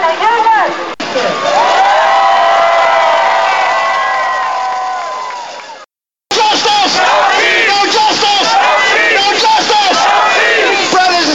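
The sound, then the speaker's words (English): A crowd of thousands chants loudly as it marches up to the Wardman Park Marriott Hotel in Washington, D.C. There is first one long sustained shout, then, after a brief cutoff, a rhythmic, repeated chant from many voices. “And a crowd of thousands marches up to the Marriott Hotel, Wardman Park Marriott.”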